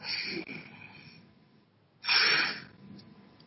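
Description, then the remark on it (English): A hiss-like puff at the start, then after a short pause a sharp, strong inhalation through an inhaler, fairly loud, trailing off into quieter breath; no talking. The person is using the inhaler while having trouble with bronchitis. “Let's do a little inhaler. I've been doing breathing treatments.”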